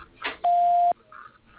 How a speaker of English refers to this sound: Please leave a message for Bill Grau after the beep.